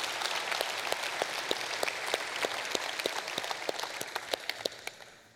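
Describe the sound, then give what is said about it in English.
A crowd applauds steadily, a dense wash of many hands clapping with sharp individual claps popping out, holding at a fairly even level before tapering slightly at the end. “Yeah, you can clap for that.”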